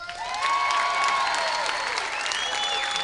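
An audience applauds steadily, a dense wash of clapping hands sustained for a few seconds at an even, fairly loud level, with a few whistles and cheers threading through, voting by applause that Elvis Presley is dead.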